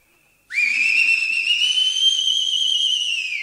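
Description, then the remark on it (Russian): A single loud, piercing whistle, the kind a person blows to call someone over. It starts abruptly, holds a steady high pitch for about three seconds, then fades slightly, with no talking. “он еще и не так может, с переливами.”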